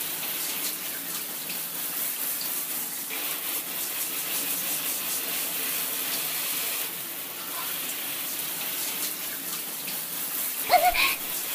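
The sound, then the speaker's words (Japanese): A shower sprays steadily in a continuous hiss of falling water, aimed over a man's genitals and moved around in circles, with a brief louder splash or spatter near the end. “おちんちんの先っぽから根元に向かって、ほーら、たまたまにもシャワーを当てて、くーるくーる動かすの。”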